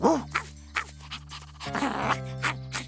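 A dog lets out a quick series of short, sharp barks, about two or three per second, over a low steady background hum.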